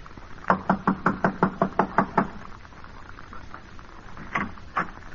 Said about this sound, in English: Yes, sir. I'll knock on the door and try it again.